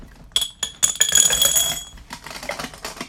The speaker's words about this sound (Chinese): 好，但是呢我可以再装一些别的东西哈，可以装这个玻璃珠哈，大家听到有玻璃珠的声音，